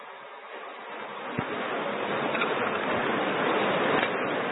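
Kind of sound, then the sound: nature, rain falling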